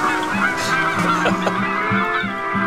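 A flock of migratory geese honking continuously, many overlapping calls forming a dense, steady clamor that stays loud throughout, with no one speaking.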